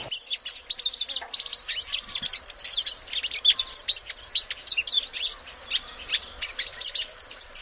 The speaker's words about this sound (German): Ein panafrikanischer Vogel, der von Westafrika bis in den Süden von Angola und in den Osten von Kenia vorkommt.